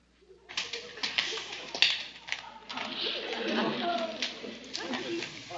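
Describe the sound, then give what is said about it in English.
Tap dancing footsteps: a busy, uneven stream of sharp, bright clicks on a hard floor that runs for several seconds at a steady moderate loudness, with murmured voices faintly underneath. “Was tap dancing your idea?”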